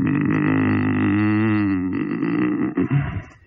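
A man grunts while testing the perforation tear resistance of his toilet paper roll, measured at 8.5 N: a long, low, strained grunt that holds steady for over two seconds, then breaks into a few shorter, rougher effortful bursts before trailing off.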